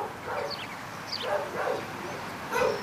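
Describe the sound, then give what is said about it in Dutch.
Dogs bark and yip in a few irregular bursts, somewhat faint, with the last bark a little louder; no one speaks. “Stil eens, ik hoor honden.”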